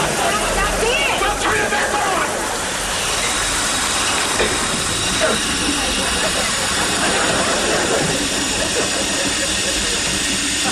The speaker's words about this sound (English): Just the pipes flushing themselves out. It should be fine now.